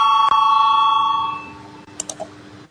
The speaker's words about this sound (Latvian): Lūdzu zvanu balsosim par 154. deputātu Orlova priekšlikumu.